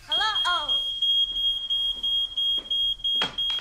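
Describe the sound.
A fire alarm in a restaurant beeps insistently in a rapid, steady series of loud, shrill high-pitched pulses, while a voice speaks briefly underneath at the start.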